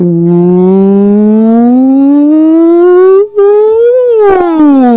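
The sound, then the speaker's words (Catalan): A loud, sustained tone rich in overtones slides smoothly and continuously upward in pitch for about four seconds, with one brief break, then bends back down at the end. No one speaks. “Perquè ho sàpiguen els nostres oients, un glissando és una cosa així com...”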